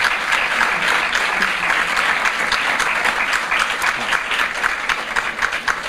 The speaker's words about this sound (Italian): Bellissimo, qui chiederei un applauso.